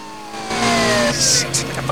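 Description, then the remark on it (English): The engine of a silver sedan hums steadily as the car speeds along in a pursuit, its pitch sliding gradually downward, with bursts of hissing noise flaring up midway. “Murtaugh is speeding along in the silver sedan.”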